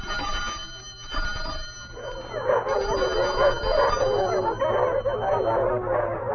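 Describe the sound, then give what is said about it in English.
A bell rings continuously with a bright, sustained tone, rung to call dogs to dinner, while dogs start howling and yelping over it, the wavering howls growing louder and fuller after the first couple of seconds. “A Dr. Pavlov made news some years ago by ringing a bell to call dogs to dinner.”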